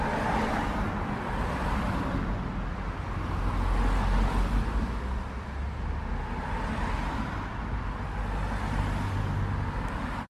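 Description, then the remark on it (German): Steady street traffic with cars driving past, a continuous low rumble of engines and tires that swells slightly midway, fairly loud, with no voices. “Wow, auch die Autos hast du erraten.”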